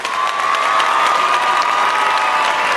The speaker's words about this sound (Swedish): Men kan vi få en liten så här cuead, alltså applåd jingle situation så att det är en massa applåder här. Kanske lite skrik, kanske lite vrål.